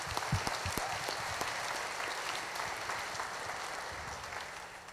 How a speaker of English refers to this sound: So, round of applause.